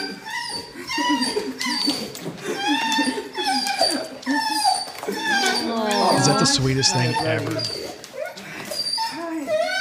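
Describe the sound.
A dog whimpers and whines excitedly in rapid, high-pitched, wavering bursts as its owner returns home from military service after months away; the whining continues throughout, loud, with a person talking over it.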